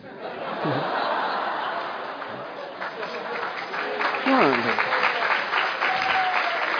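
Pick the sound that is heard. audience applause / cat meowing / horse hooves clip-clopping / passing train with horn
audience applause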